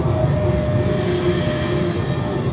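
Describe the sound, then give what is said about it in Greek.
A steady, loud rumble of a train at a station as a passenger boards, with continuous low mechanical roar and faint metallic tones, no voices, lasting throughout. “Και μπαίνω στο τρένο.”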